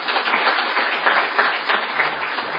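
An audience applauds the speakers and breed reps at the end of a talk, steadily, a dense wash of many hands clapping at once, fairly loud and sustained without a break for a couple of seconds.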